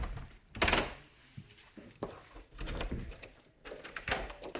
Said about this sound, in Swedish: Nu kommer det slamra lite här. Det är så tunga dörrar här på slottet. De flera meter höga pardörrarna måste låsas upp och stängas efter varje passage.